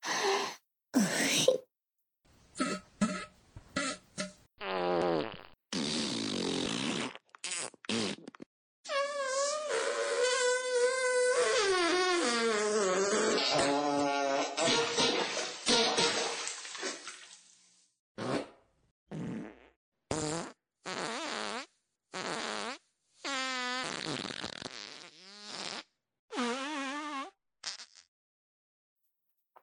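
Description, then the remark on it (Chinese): A rapid string of ten farts in a row, some short and sputtering, others long and buzzing with a wavering, whiny pitch, broken by brief silences. No one talks. “哦，连放了十个屁，真是爽呢！”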